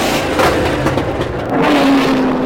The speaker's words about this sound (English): They're cranking up the engine.